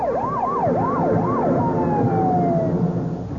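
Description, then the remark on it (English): A police escort's siren wails in fast rising-and-falling sweeps, then settles into a long steady tone over a constant rumble of traffic, loud as it approaches, escorting a speeding two-tone blue four-door sedan down Pennsylvania Avenue. “A two-tone blue four-door sedan is speeding down Pennsylvania Avenue and coming this way with the police escort.”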